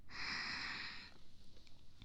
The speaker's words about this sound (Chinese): 但是在我怀里，听着我的呼吸声，好好的休息一下。